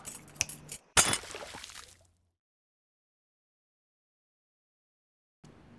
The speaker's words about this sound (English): Before you ask, let me just... get this, put this right here, and there we go. Water and glass can fall into this trash can.